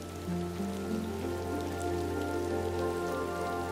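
Steady rain patters continuously on a hard surface, a dense, even hiss of drops, with soft sustained low tones humming underneath. No one speaks.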